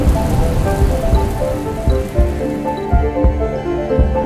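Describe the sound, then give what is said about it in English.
Heavy rain pours down steadily, a dense, loud wash of drops drumming on a surface with a deep low rumble underneath and no voices. “Thundering rain.”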